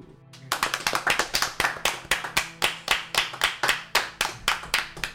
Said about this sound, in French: Veuillez applaudir Lady Lococo.